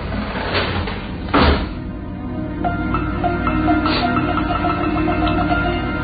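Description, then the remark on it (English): A heavy garage door, pulled down on a rope by a woman, comes down with a dull thud, then keeps rattling and clanking steadily as it rolls, metallic ticks repeating over a constant rumble. “In the rearview mirror, I could see the woman, frail and slim, pulling down on the rope, and then the door slowly dropped behind me.”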